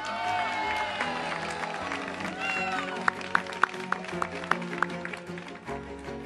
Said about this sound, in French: Voilà, merci donc à cette foule en délire